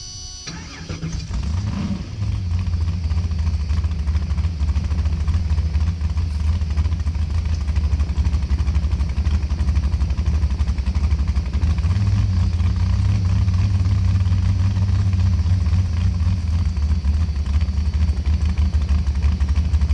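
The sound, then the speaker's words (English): A drag race car's engine is started by pulling the kill switch and hitting the starter button; it cranks and catches with a sharp rising roar, then settles into a loud, steady, rumbling idle with a heavy low drone that continues throughout, with no talking. “Pull the kill switch, hit the starter button.”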